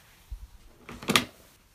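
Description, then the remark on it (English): A closet door is opened to get a rag: a couple of soft low bumps, then a brief rattling clatter of the door swinging and its latch clicking, with no one speaking. “Open that door over there, yeah. That one.”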